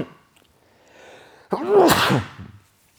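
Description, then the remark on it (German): A single loud sneeze bursts out after a brief quiet intake of breath, with a sharp explosive onset and a noisy trailing release, heard alone without any talking. “So, das war ein Live-Nieser im Podcast, der natürlich auch nicht rausgeschnitten wird.”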